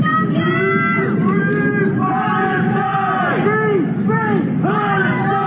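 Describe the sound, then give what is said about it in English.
A crowd of many voices shouts and yells words of support together in the street by the Palace of Westminster in London as a man climbs Big Ben, a continuous loud chorus of overlapping cries rising and falling, with no single voice standing out. “Some on the street heard yelling words of support.”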